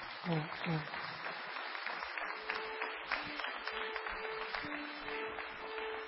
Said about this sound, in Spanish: Un aplauso para él.